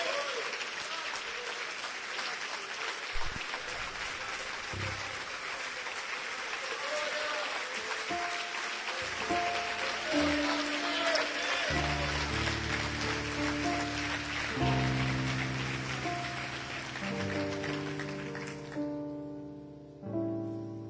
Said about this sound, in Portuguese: Aplauda o Senhor e celebra o seu nome. Celebra o seu nome, meu irmão.